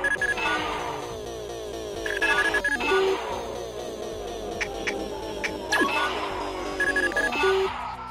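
A video game portal sound effect: dense, shimmering electronic tones with bright bell-like chimes and sweeping warbles, repeating in waves at a steady, fairly loud level with no voices.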